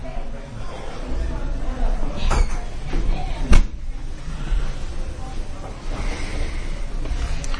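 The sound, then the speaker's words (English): A door thuds shut once, a single sharp knock partway through, with low murmuring voices and room noise carrying on steadily around it. “Can you close that door, please?”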